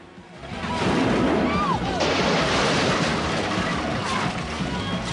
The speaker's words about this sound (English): The limo powers up a lifeguard ramp and crashes through the hut.